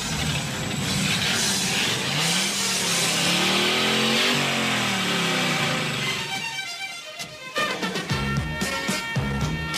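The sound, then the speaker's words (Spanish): Loud engines of rival cars rev up and down in rising and falling sweeps before a 1950s street race at the canal, with Travolta's car, the Gris Lightning; powerful, with roaring bursts and crackling exhaust toward the end. No one speaks. “Un chulo barato viene de otro barrio, de San Bernardino, y deben enfrentarse coches. Es la época de los 50, Rebeldes sin Causa, James Dean, esas famosas carreras.”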